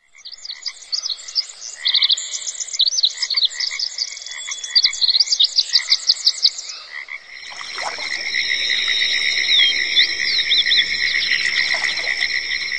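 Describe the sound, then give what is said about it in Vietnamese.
Cicadas drone steadily in a forest on a trek toward Bầu Sấu, a shrill, continuous buzz that takes over midway after a stretch of rapid, repeated chirping calls. No voices, only the insect chorus filling the air. “Tiếng ve ngân râm ran, tiếng chim rúc rích trên tán cây cao, hòa quyện tiếng bước chân dẫm lên lá khô xào xạc, tạo thành một bản nhạc rừng thật vui tai.”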